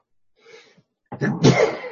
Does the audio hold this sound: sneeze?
yes